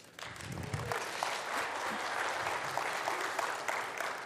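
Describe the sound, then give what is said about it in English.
An audience claps steadily, a dense wash of many hands at a fairly even level that starts abruptly and carries on throughout, with no voices on top. “They're clapping, grateful it wasn't them who was up here.”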